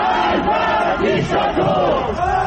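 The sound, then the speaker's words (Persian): A large crowd of protesters in the streets of Tehran, Iran, during the November 2019 (Aban 1398) protests shouts and chants together, a loud, continuous roar of many voices with rising and falling cries layered over one another throughout. “مناطق مختلف تهران پایتخت شاهد حضور گسترده معترضان بود، از جمله شرک غرب، پل گیشا، پونک، صادقیه و اکباتان.”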